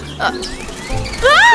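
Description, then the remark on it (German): Small birds chirp in quick, high, sliding tweets, faint at first and then suddenly loud in a bright burst at the end. “Ob ich es wagen darf, die zarten Zwitscherlinge zu beschmusen und ihnen ihre wohlklingenden Kehlchen aus dem Halse zu zuzeln?”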